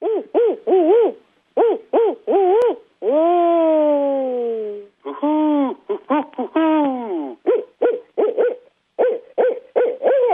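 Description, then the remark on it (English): Callers' human imitations of a barred owl, giving rhythmic hooting phrases with rising-falling pitch and a long drawn-out descending call in the middle, repeated in several loud bursts. “Here are three different takes on the barred owl.”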